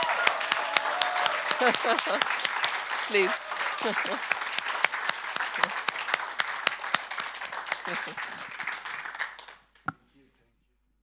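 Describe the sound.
An audience applauds steadily for nearly ten seconds to welcome visiting worship ministers from other nations, a dense wash of many hands clapping, with a voice speaking briefly over it before the clapping stops abruptly.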